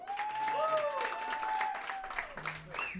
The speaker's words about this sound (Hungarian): Én nekem mondjam nektek, hogy az egyik legjobb gitáros most, aki nagyon feltörekvő nemzedékben. Hála Istennek nagyon jó harmóniákat meg hangokat fog, úgyhogy gratulálunk neki, és még egy nagy tapsot kérünk.